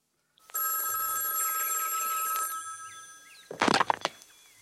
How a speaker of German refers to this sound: Am 11. März klingelte bei Condon das Telefon.